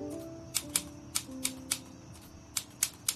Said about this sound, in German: Als er zu Hause ankommt, setzt er sich an die Schreibmaschine und tippt, ohne auch nur ein Wort zu korrigieren, den letzten Absatz des ersten Kapitels.